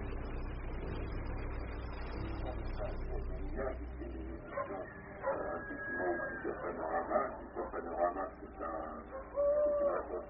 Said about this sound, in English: It is the same owl.